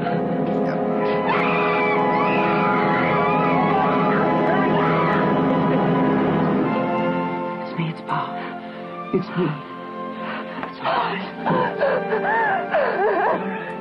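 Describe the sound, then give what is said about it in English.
A woman huddling in fear in a corner screams, a loud, sustained cry with a high, wavering pitch lasting several seconds, followed by shorter, broken vocal outbursts that rise and fall. “But so here's the scream again because Mary is just huddling in fear in the corner.”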